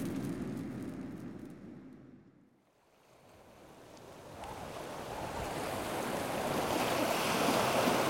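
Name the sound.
ocean waves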